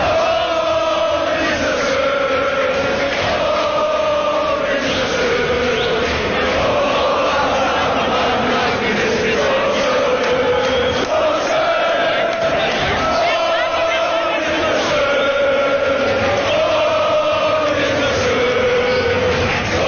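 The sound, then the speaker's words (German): A large crowd of Kaiserslautern football fans celebrating in Kaiserslautern sings and chants together, loud and continuous for the whole stretch, with rising and falling melodic swells and occasional cheers and shouts mixed in. “Und so hat man gefeiert in Kaiserslautern, ein ganz besonderes Publikum.”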